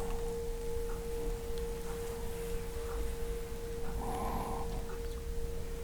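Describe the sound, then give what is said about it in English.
A meditation bell's ringing tone holds steady and unbroken throughout, a clear sustained pitch over a soft low hum, with a faint brief rising chirp and a short murmur late on. “Follow the sound of the bell inwards.”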